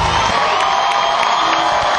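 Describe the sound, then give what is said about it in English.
A big concert crowd cheers as the band takes the stage, a steady, loud roar for two seconds, with scattered higher whoops and shouts breaking through the dense wash of noise. “It looks like I hear the crowd going, so.”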